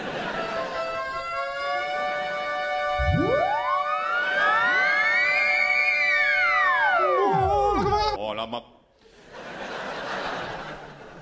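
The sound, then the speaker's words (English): An ambulance siren wails loudly with layered tones sweeping up and then sliding back down, stopping abruptly and leaving a brief hiss of background noise. “That will be an ambulance attending an emergency in another dimension.”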